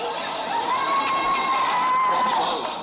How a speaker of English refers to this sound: That's the first time I ever heard a woman screaming at a male singer.